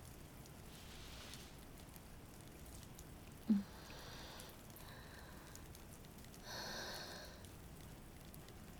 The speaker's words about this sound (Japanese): 雨、止まないわね。どんどん強くなっているみたい。